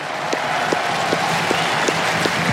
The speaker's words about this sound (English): Fabrice Santoro just asking the crowd to applaud Juan Carlos Ferrero, coach of Carlos Alcaraz, who won this title 20 years ago. And Carlos himself is applauding.